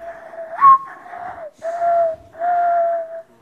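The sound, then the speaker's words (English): Singer Paula Cole whistles bird-call imitations on NPR's Ask Me Another: a short rising chirp followed by three sustained, warbling phrases with brief gaps, steady mid-high pitch, moderately loud, with no talking. “Do you do any bird calls?”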